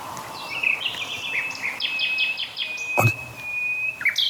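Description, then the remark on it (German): A common nightingale sings, a rich run of rapid repeated notes and a long sustained whistle, with a brief sharp click partway through against soft outdoor background noise. “Und dann gibt es noch unsere Hausnachtigall.”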